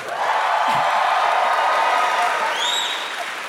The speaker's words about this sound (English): You got some applause this time. That was good.